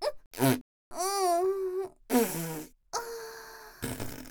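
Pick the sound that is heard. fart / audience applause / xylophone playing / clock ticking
fart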